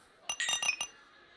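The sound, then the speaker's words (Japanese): Several quick glass clinks ring out close together, bright and tinkling, as drinking glasses tap against one another in a toast at an end-of-year gathering, a brief cluster that then fades into quiet. “みんな、今年も一年お疲れ様でした。乾杯。”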